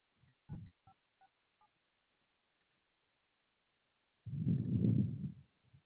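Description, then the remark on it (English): A few short touch-tone keypad beeps sound at uneven intervals as a phone number is typed into an automated roadside assistance phone line, fairly quiet over the phone line, followed after a pause by a muffled burst of low rumbling noise. “Please type in the phone number associated with the service request, starting with the area code first.”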